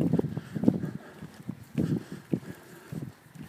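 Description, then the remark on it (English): Water droplets drip from a branch in soft, irregular patters and taps, quiet, with a low outdoor rustle in between. “Branch, just dripping droplets.”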